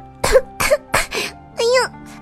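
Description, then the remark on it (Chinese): A voice acts out a small white bird coughing after being blown with black smoke rings from a pipe: three quick, sharp coughs in a row, then a longer strained, voiced cough and a faint final one, fairly loud. “白色的小鸟被烟圈吹得是一边咳嗽一边跑”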